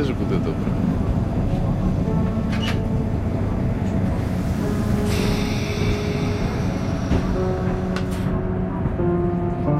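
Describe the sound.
A train rolls steadily along the rails with a continuous low rumble and humming tones, while muffled voices murmur faintly in the background.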